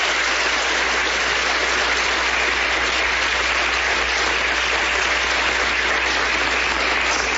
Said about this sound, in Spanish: Pablo Beltrán por la guerrilla del ELN y el exministro Juan Camilo Restrepo, el jefe del equipo negociador del gobierno, aplauden allí en la Cancillería de Ecuador.